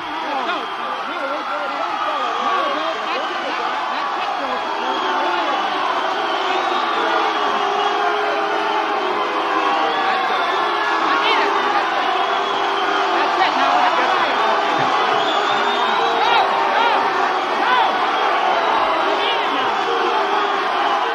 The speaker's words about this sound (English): Let me play the track that's called … on the CD version of this 1956 Newport concert. And here you are at the mic trying to end the concert as people start booing you.